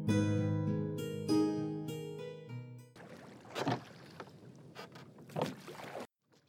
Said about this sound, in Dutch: Het eerste dat je hoort is het kraken van het hout en het water dat kalm kabbelt.